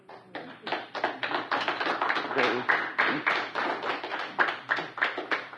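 An audience claps steadily for several seconds, many hands overlapping into a dense, sharp patter with a loose, slightly rhythmic pulse at a fairly even, moderate loudness.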